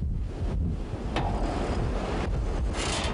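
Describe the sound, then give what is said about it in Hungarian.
Storm-force wind roars steadily, buffeting the microphone with heavy low rumble and gusty hiss that never lets up, with no voices; the wind is raising ever larger snowdrifts on the road to Boldogkőváralja. “Bár az áramszolgáltatás már helyreállt Boldogkőváralján, most inkább a viharos erejű szél okoz gondot, amely egyre nagyobb kóbuckákat emel a település felé vezető úton.”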